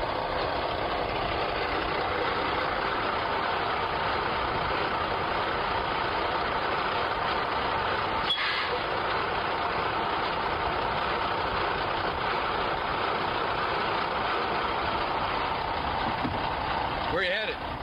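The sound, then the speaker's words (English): A truck engine idles steadily, a continuous rumbling drone that holds for the whole stretch, with muffled voices talking over it and a brief clunk near the end. “Hey, stop the truck.”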